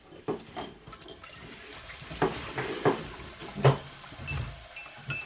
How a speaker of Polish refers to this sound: dolać ci kawy? Może odrobinę.